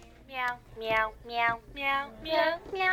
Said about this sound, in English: And then also to figure out what their favorite toys are. That is a meowing piano.